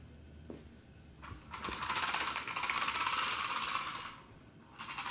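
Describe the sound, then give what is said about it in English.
A noisy bus: a steady low rumble underneath, then a loud rushing, hissing roar that swells, holds for a few seconds and fades, with another burst starting at the end. No one speaks. “That's a noisy bus.”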